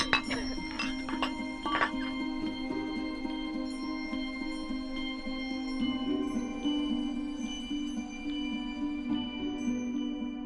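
Wine glasses clink together in a toast, a few bright taps near the start followed by a long, shimmering ring that slowly fades. No one speaks.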